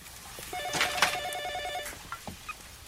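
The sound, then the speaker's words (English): A telephone rings with a single rapid, warbling trill lasting over a second, fairly loud and high-pitched, followed by a few soft clicks and knocks. Nobody speaks. It is the call telling Ruth Fisher that her husband Nathaniel has been killed. “Case in point, when Ruth Fisher, Nathaniel's wife, gets the phone call that her husband's been killed and makes a big old scene upstairs while David's trying to keep things calm at the wake.”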